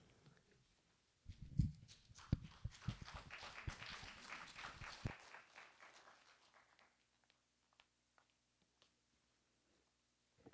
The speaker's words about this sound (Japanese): 本日はまちづくりに関するいろいろなお話を広くご講演いただく予定でございます。盛大な拍手をもってお迎えくださいませ。